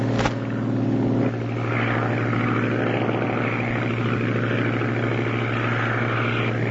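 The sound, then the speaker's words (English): A propeller airplane engine drones steadily and loudly throughout, a continuous low hum with a rough, buzzing texture and no pauses or voices. It is Charles Lindbergh's plane flying alone over the endless ocean. “Now he is alone with his plane, the sky, and the endless ocean below.”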